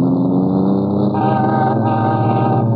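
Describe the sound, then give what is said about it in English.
A sports car engine rumbles loudly, its steady growl shifting in pitch partway through as the car pulls up. “Then where'd you get that sports car?”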